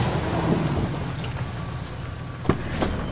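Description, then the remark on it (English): Steady rain hisses and patters continuously while low thunder rumbles underneath, with a sharp crack near the end standing out from the wash of the downpour. “The rain eased.”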